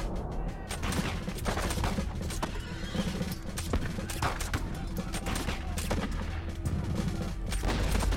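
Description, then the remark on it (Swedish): A dense, loud battle scene by a burning city: scattered musket shots crackle continuously over deep booming cannon fire, with horses whinnying and hooves clattering amid the roar. No one speaks. “Dimman blandas med rök från den brinnande staden, från musköter och brakande kanoner.”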